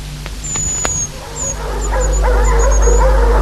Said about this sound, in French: Le chien aboie.